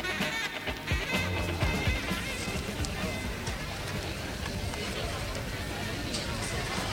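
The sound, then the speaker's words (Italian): Passengers chatter inside a large long-haul airplane carrying 300 to 400 people, a steady murmur of many overlapping voices with no words standing out, over a constant low rumbling hum that fills the whole stretch. “Questo è così, è il vociare della gente. Dentro un aereo ci sta un sacco di gente.”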